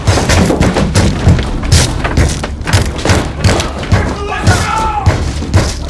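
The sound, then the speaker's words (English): Heavy dining room furniture thuds and bangs in a dense, rapid cluster, loud, with scraping and clattering between the impacts as brothers shove the pieces against a door to barricade it. “The brothers barricade the door with dining room furniture.”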